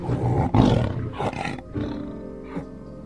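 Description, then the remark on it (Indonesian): A white tiger roars loudly, a deep rumbling roar surging in several heavy bursts over about three seconds as it walks toward a ruler's seat on command, with no talking. “Paduka, lihatlah harimau putih menuruti perintah Paduka.”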